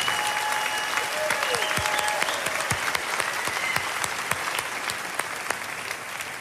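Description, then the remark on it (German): An audience at the AZK claps steadily for several seconds to welcome Dr. Daniele Ganser, a dense wash of many hands with sharper individual claps popping out, sustained at a fairly even loudness with faint whistles threaded through. “Applaus für Daniele Ganser.”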